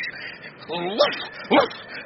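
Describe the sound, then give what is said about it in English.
A person imitates a dog's bark twice: a drawn-out, rising woof followed shortly by a shorter, sharper one, over a faint hiss of background noise. “By some weird osmosis, I begin to feel like a dog, to think like a dog.”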